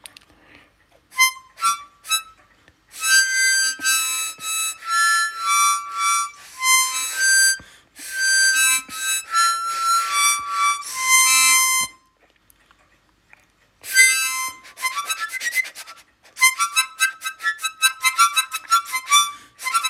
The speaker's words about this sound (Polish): Wygląda jak harmonijka ustna. No i jest to harmonijka ustna. Cztery otwory, ale takie wąskie, że trudno zagrać pojedynczy dźwięk.